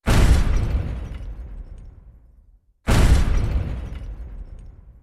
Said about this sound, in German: Und diese Explosion, das ist natürlich etwas, wo man auch mit Technikern im Hörspielstudio zusammen, da schafft man dann schon gerne mal einen halben Nachmittag nur an dieser schönen, fetten Explosion.